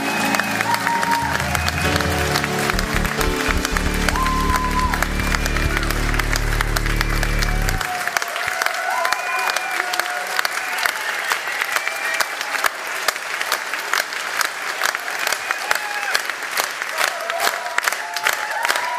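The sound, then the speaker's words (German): Sustained audience applause of thanks for a woman, dense and steady clapping from a large crowd throughout, with a low rumble of cheering or music underneath for the first several seconds before the clapping continues alone. “Und jetzt haben wir jetzt einen ganz besonderen Applaus geben.”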